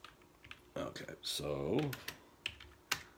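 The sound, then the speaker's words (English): Irregular clicks of typing on a computer keyboard while bringing up a trading strategy's results, sharp individual keystrokes spaced unevenly, with a brief murmured voice in the middle of the tapping. “Here, let me just do some typing here while you get to watch me in my bunny rabbit hat.”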